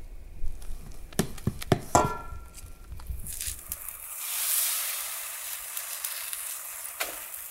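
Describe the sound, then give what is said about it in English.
A few sharp clicks and taps give way to a bright, steady hiss as the first mesquite flour pancake's batter sizzles in a hot pan, swelling briefly before settling into a softer crackle. “Okay, first pancake is going on.”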